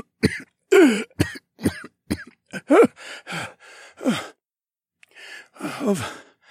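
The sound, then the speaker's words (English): A fit of harsh, raspy coughing from the High Sage, several bursts in quick succession with wheezy breaths and gasps between them, loud, with no talking. “Don't be ridiculous, Lord Evan, the High Sage chuckled, but then he broke into a fit of coughing.”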